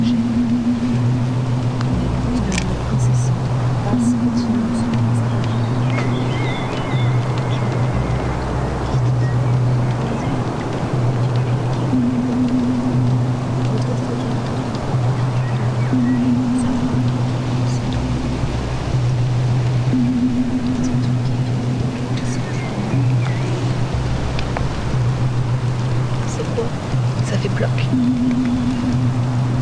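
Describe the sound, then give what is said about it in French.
Water flows steadily down a stream in a forest or near a house, a constant broad rushing that never lets up, with low droning hums rising and fading intermittently underneath. “Ici, dans la forêt ou près de la maison, l'eau, tout le temps, nuit et jour, en toute saison, coule et descend.”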